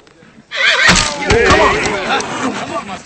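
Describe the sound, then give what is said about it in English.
A wild Mustang horse being handled by Army soldiers neighs loudly, a long, quavering whinny that rises and wavers for several seconds, with a couple of dull thumps mixed in. “The Army has dealt with wild horses before.”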